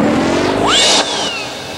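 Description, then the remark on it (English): A car engine revs up sharply, its pitch climbing fast and then tapering off as it pulls away, loud over a busy background wash with no voices. “Luigi, quick, get the car.”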